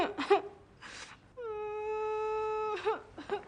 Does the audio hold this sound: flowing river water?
no